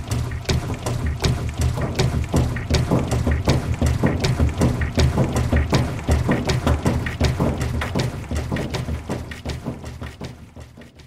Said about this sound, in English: and it was made entirely of sounds from a washing machine.